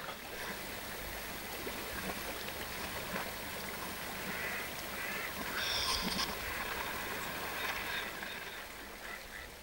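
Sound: flowing river water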